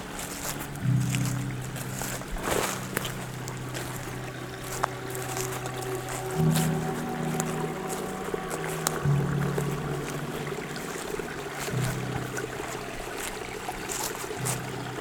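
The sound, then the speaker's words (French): Water laps and splashes steadily amid fir and broadleaf woods, a continuous wet texture with small irregular slaps, over a low droning hum that shifts pitch now and then. No voices. “Clapotis, vous invitant très certainement à revenir ici ou là-bas pour une nouvelle excursion sonore.”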